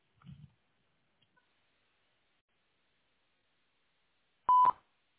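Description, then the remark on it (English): A single loud electronic beep sounds near the end, a short steady tone after a brief low murmur and near silence, a construction company's answering machine signaling to start recording a message. “I'm sorry no one can come to the phone right now, so if you please leave your name, number, and brief message after the beep, we'll be sure to return your call as soon as possible.”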